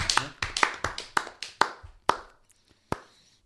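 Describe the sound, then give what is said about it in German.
A short burst of hand clapping, about ten sharp claps at an uneven, slowing pace, thinning out to a couple of final claps at the end. No voices. “Einen kleinen Applaus innerlich, gerade wenn ihr euch hört.”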